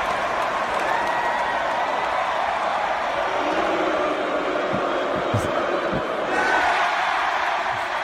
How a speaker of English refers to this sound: Whoever else they would put the camera on, the crowd would boo. And then this started to pick up an intensity.